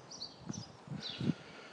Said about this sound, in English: And all you can hear at the moment is birdsong.